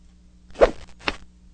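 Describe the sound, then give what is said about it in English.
A quick swooshing rush of air sweeps past, then a dull, muffled smack lands a moment later; both are short sound effects with no talking. “It's the whoosh, and the smack is kind of like muffled.”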